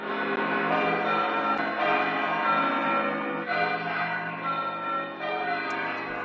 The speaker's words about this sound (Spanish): Y repicaban las campanas de la catedral este sábado, anunciando al nuevo arzobispo de Santiago.